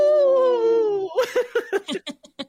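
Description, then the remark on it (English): A person on the Native Roots Radio show imitates a wolf howl with a single sustained, slowly falling tone lasting about a second, then breaks into a quick series of rhythmic, laugh-like bursts, fairly loud. “In this portion of the show, we like to bring awareness to our Minnesota wolf population. Say no to the hunts. Howl.”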